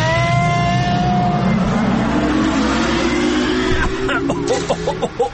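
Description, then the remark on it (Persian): A time machine powers up with a loud, steady mechanical hum that climbs gradually in pitch, then breaks into fluttering, stuttering pulses as it departs. “باید برم به جنگ زمان.”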